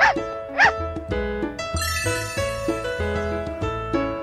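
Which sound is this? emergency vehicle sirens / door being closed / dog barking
dog barking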